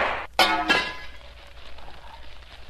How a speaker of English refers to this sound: I've broken the lamp, Shadow.